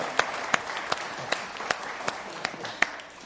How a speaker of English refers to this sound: Thank you. Thank you very much. Big round of applause.